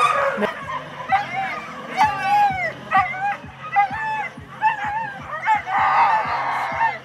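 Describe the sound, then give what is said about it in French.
A pack of sled dogs bark, yip and whine excitedly all at once, a dense, constant chorus of overlapping high cries, with a low hum of voices underneath. “Quand on arrive tout de suite, il faut sortir les chiens, parce que comme ils ont fait de la route, il faut les sortir pour faire leurs besoins.”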